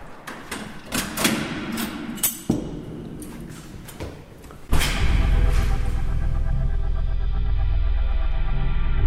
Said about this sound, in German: Ja, jetzt ist er auch mal eingeschlossen. Ja, aber oben hat er den Riegel vorgeschoben.